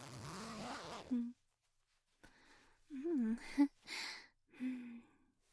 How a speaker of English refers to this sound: Yeah, help me out of my trap. Just pull the zipper in the back.